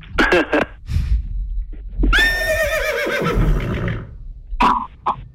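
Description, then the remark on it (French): A loud horse whinny heard over a telephone, with a long quavering neigh in the middle, framed by shorter snorting, nickering bursts at the start and end, with no talking. “Parce que moi j'entends un cheval dans le téléphone.”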